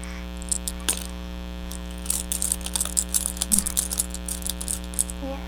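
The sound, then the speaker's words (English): Keys jingle in bursts of light metallic clinks and rattles as they are shown to a baby, scattered across a few seconds over a steady low electrical hum, with no one speaking. “Jingle, jingle, jingle. Show him baby the keys.”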